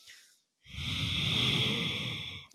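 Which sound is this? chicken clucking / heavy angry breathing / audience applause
heavy angry breathing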